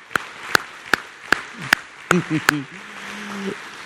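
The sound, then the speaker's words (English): An audience claps hands in unison as a thank-you to the mothers standing, about seven sharp, evenly spaced claps at a steady beat, with a voice speaking briefly under the later claps. “Let's give them a big thank you with a hand clap.”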